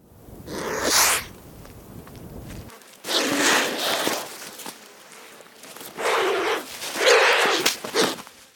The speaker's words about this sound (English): They lack the vocal ability of other birds and are only able to grunt or hiss. Here's what it sounds like.